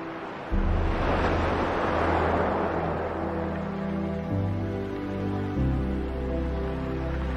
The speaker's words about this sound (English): Oceanus Borealis. the ocean in the north. The ocean in its majesty.